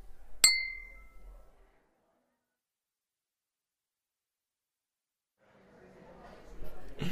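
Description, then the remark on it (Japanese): A single bright clink of glasses touching in a toast to a reunion after a long time apart, ringing briefly before fading into silence; soft voices and background murmur rise near the end. “それじゃ、久しぶりの再会に、乾杯。”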